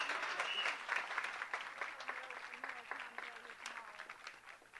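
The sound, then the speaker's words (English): A crowd applauds steadily for several seconds for the Bahamian calypso music of the Junkanoos, a dense wash of many hands clapping, with faint voices and a few cheers mixed in underneath. “Hear one more round of applause for this fine Bahamian calypso music of the Junkanoos.”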